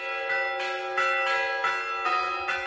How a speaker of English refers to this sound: In Bethlehem, not far from Jerusalem, church bells tolled over an empty manger square where Christians believe Jesus was born.